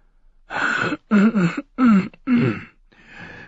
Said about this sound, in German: Großmeister Pucelle räusperte sich, ein Vorgang, der einige Augenblicke in Anspruch nahm.